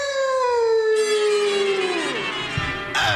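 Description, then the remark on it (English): An Airedale howls in one long, loud wail that slides steadily downward in pitch, then breaks off as a second howl starts abruptly at the very end. “Say, you the Airedale that's been keeping me thought out late every night, huh?”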